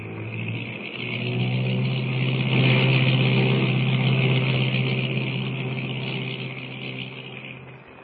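A seaplane's engine drones steadily with a low, throbbing hum, swelling louder through the middle as it lands on deep water by an island and taxis up to the beach, then gradually easing off. No one speaks.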